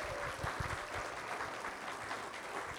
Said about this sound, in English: Can we give him a round of applause for making these?